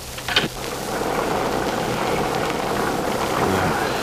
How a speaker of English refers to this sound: Storm hasn't let up a bit. Yeah, I'll get good and soaked